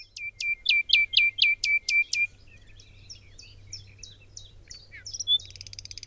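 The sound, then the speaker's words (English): A bird sings a fast run of about eight loud, ringing repeated notes, then continues with softer, varied twittering phrases, all clear with no voices present. “The other system is what you find in birdsong, what I call the E system or the expressive system.”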